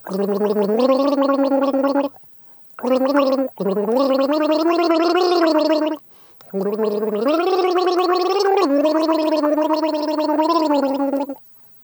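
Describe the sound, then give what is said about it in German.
Someone gargles the melody of an English-language song, the bubbling voiced tone sliding between sustained pitches in long phrases broken by short pauses, loud and steady throughout with no speech. “So, also, du bist dran mit Gurgeln.”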